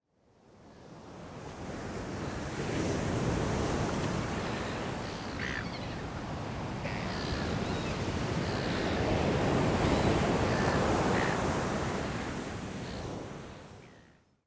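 Steady ocean surf rolls and washes ashore with the evening tide, a broad continuous roar that swells and eases in long surges, fairly loud, with some wind rumble and no voices.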